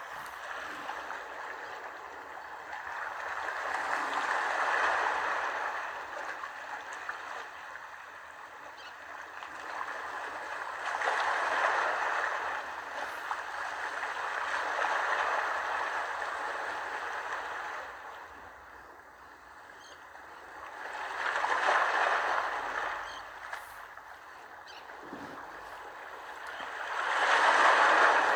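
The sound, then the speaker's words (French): Gentle waves wash up a beach and draw back in slow, rolling swells, each surge rising to a soft hiss of foam every several seconds, steady and unhurried with no voices. “Et je te propose de commencer par écouter les vagues qui vont et qui viennent sur la plage et qui vont te bercer.”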